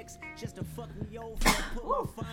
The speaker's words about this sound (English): Excuse me. I don't know if I can sneeze on the podcast. Oh my god, I've been having so many summer allergies in my back.